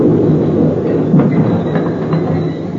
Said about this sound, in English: As the train moved into the station, I rolled and pinned myself tight onto the concrete ledge as the wheels came to a stop, now 3 inches from my face.